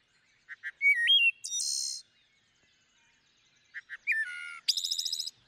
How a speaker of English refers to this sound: Let's hear that. Let's hear that wood thrush.